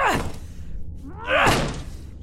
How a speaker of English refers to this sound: Help me break this door down.